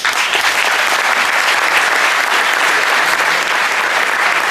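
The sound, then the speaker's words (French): A large audience at a ceremony applauds steadily, a dense wash of many hands clapping at once, loud and sustained throughout with no pauses or voices standing out. “After this little clapping, I will request from you another salawat, please.”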